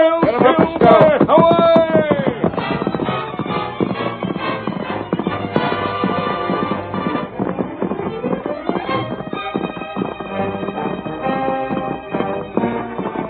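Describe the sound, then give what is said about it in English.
Two riders' horses gallop at full speed across country toward a burning ranch house, a rapid, steady drumming of hooves running loud and continuous for the whole stretch, mixed in with driving, dramatic orchestral music. “The masked man and his faithful Indian companion urged their horses to their greatest speed, but swiftly as the two men rode, the fire had almost completed its work when they drew near the ranch house.”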